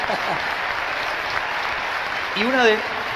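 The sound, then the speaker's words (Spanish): A crowd applauds in a steady, dense wash of clapping that holds at an even level throughout, with a voice briefly speaking over it near the end. “Sí, un aplauso, por favor.”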